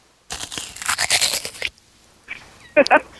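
Loud crunching from someone biting into a crisp apple, a dense burst of crackly chewing followed by a pause and then a few sharper crunches.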